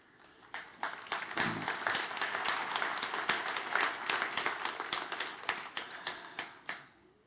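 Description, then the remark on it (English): Applause: a steady patter of many hands clapping, dense and irregular, rising quickly and holding at a moderate level for several seconds with no voices. “Why are you applauding?”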